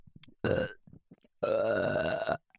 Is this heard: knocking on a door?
no